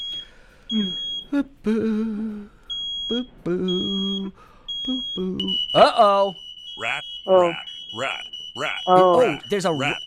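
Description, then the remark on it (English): Electronic scanning beeps from a mock scan of a caller's car over the phone: a series of short, high-pitched tones repeat at a steady rhythm, then merge into a longer sustained high tone, while a person talks throughout. “Put the phone down and I'm going to start scanning.”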